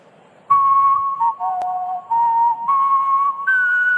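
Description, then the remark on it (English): A whistling champion whistles the US national anthem as a slow, stately melody in clear, sustained tones, each note held and sliding smoothly to the next, fairly loud with no talking. “whistling champion and member of the Whistling Hall of Fame, …, who will now honor our nation with his rendition of our Star-Spangled Banner”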